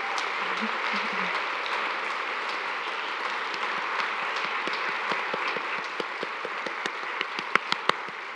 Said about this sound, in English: So if you are here, I would love you to stand so we can recognize you and applaud you.